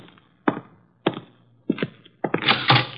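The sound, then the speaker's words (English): Several firm knocks on a door as Mr. Crail arrives to see Mr. Wolf, spaced about half a second apart, followed by a quicker cluster of raps toward the end. The knocks sound clear, with no talking. “The door, Archie.”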